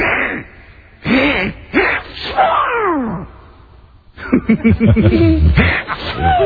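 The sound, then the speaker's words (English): A voice imitates Donald Duck sneezing after pretend pepper is thrown, with raspy, squawking bursts and wheezy buildup, loud and close, in two clusters separated by a brief pause. “you want to see Donald Duck sneeze?”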